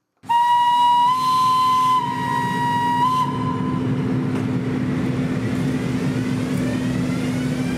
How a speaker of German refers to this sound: Mit dem Abpfiff verabschiedet sich der Zug aus dem frisch umgebauten Bahnhof zu Grüsch und macht sich auf den Weg nach Schiers, Saas und Klosters.